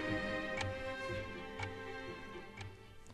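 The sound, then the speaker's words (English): A chess clock ticks steadily, one crisp tick about every second, over a soft sustained musical drone in the background; it is Bobby Fischer's clock running after Spassky played pawn to queen four and touched his clock. “You saw Spassky make his move, then he touched his clock, which turns his clock off, but turns his opponent's clock on. So Fisher's time is now ticking.”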